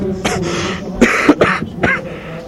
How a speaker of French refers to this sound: Voilà, il continue à tousser